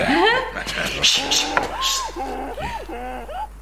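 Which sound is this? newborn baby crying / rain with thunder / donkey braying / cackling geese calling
donkey braying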